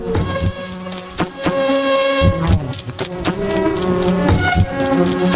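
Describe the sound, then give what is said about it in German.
A dance-pop track made by two Austrians from the buzzing of thousands of bees: dense, droning insect buzzing, layered bee-like hums pitched into melody with sharp rhythmic clicks punctuating a steady beat, loud and continuous with no voices. “Tausende von Bienen bringen nämlich die Leute zum Tanzen, wenn das da hier irgendes war im Club läuft.”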